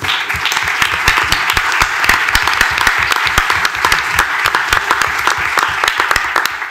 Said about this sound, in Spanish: Bueno, pues más aplausos.